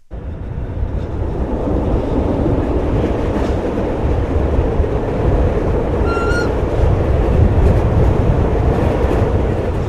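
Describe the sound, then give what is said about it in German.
A red-and-cream 1980s narrow-gauge train of the Waldenburger Bahn (75 cm between the rails) rumbles and rattles steadily throughout, running from Liestl into the Waldenburg valley. A loud, continuous low clatter, with a brief squeal of metal partway through and no voices. “Die rot-cremefarbigen Züge aus den 80er Jahren rattern von Liestl ins Waldenburgtal darauf.”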